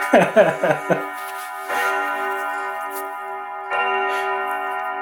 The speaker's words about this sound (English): We've had, oh, hello, clock. Now everyone will know what time it is. That's right. One of my other hobbies, I'm a clock collector. Sorry about that. At least there's only one running in this room.